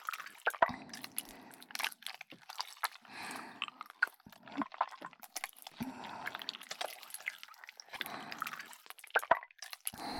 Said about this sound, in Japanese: 私の手の中でいやらしく形を変えてますよ。ぐっちゅぐっちゅ。